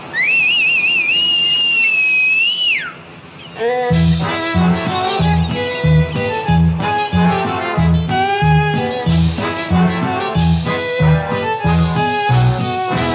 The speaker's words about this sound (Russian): свистать всех наверх.